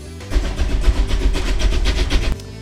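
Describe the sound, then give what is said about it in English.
A steam locomotive coming off a turntable chugs, a rapid run of rhythmic chuffs over a heavy low rumble that starts abruptly and cuts off after about two seconds, with no voices. “There's your pride and joy just coming off the turntable. Yes, sir, the old express.”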